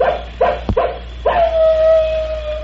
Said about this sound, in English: Say, we've got company. The wolves are out. Yeah. Looky over yonder on that ridge. That old he-wolf Brindle.